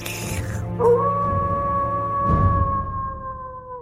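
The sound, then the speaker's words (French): A long, drawn-out wolf howl rises and then holds a steady, mournful pitch for several seconds, sounding somewhat distant over a low background rumble. “On entendait les loups au loin, mais Tommy dormait à point fermé.”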